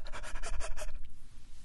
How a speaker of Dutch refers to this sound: En dat kun je doen door als een hondje te hijgen, je tong uit te steken en heel snel te ademen.